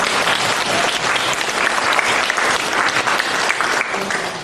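Sustained audience applause, a dense, steady wash of many hands clapping at an even loudness throughout, with no voices standing out above it.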